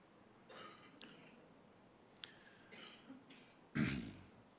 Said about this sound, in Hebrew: אני עושה בסולידריות, את משתעלת, אני משתעל גם. זה ככה זה עובד.